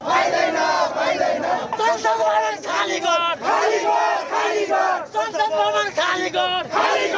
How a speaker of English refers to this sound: Protests over Nepal's ban on social media and corruption are growing more violent. The ban is now lifted, but tens of thousands are still demonstrating in the capital city of Kathmandu.